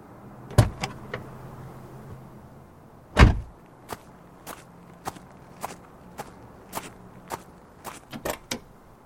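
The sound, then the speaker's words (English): A car door latch clunks open, with another sharp knock just before it, then a steady run of footsteps follows. No one speaks. “A queen doesn't open her own door.”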